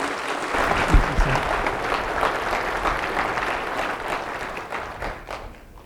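An audience applauding, a steady wash of many hands clapping at once, holding fairly even before thinning out and fading toward the end.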